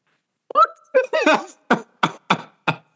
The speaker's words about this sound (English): That shit got caught in your throat like a condom. Okay. You was coughing like a hairball.